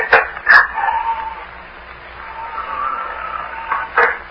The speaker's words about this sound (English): What was that? The door. The wind blew it open and shut again. Locks are all worn out.